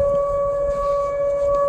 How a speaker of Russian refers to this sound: Сирена, слышь, заорала?